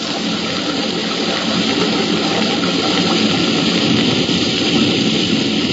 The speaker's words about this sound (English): stepped onto the slippery shelf of rock next to the falls, hunched his shoulders, and disappeared into the torrent of falling water.